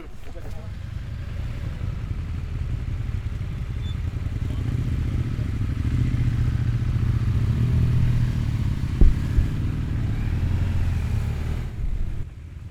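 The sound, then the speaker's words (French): A motorcycle ride: a steady, rumbling engine drone with wind buffeting, holding an even loudness throughout, broken only by a brief sharp knock partway through. “Là, on part pour 30 minutes de moto.”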